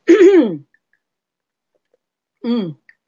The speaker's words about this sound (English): But first, let me have a little drinky-poo, because I burnt a whole bunch of sage in this room, and I am coughing up a storm. I can hardly breathe. Excuse me.